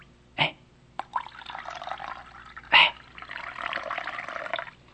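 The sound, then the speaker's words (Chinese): Water is poured steadily into a basin by a man preparing to wash feet, a broad splashing stream lasting a couple of seconds, preceded by a few sharp clinks and splashes, with no voices. “他站起来了，脱去了外衣，又倒水在盆里。”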